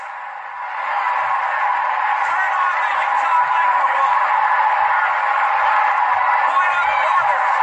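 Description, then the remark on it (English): A large crowd on a political convention floor shouts and jeers together in objection, a loud, sustained roar of overlapping voices that swells within the first second and holds steady throughout, with no single speaker standing out. “I'm guessing there was objection to that, Ian, based on what was going on the floor. And it continued like this for minutes”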